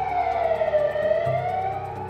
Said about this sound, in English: Someone else had called the cops, and from somewhere far away, sirens started to blare, getting louder by the minute.